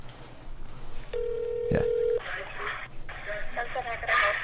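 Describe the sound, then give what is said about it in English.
A single steady electronic phone tone sounds for about a second as a call to place a pickup order is made on speakerphone, broken by a sharp click midway, followed by muffled, garbled chatter from the phone line. “All right, I'm going to hand you the phone, and if you don't mind, let's put it on speaker, and you can hold it into the...”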